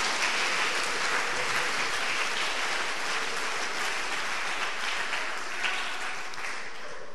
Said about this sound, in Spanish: Dale fuerte ese aplauso a la gloria de Dios.